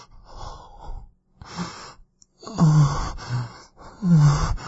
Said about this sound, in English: And you can hear my moans and my breathing getting louder, more intense, more desperate.